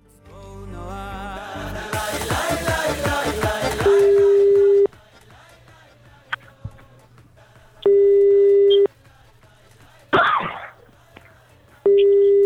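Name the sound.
telephone dialing tones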